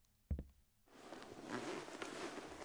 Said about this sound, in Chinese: 你快过来帮我看看，裙子的拉链卡住我的头发了，我有点拉不开了。你能帮我解开吗？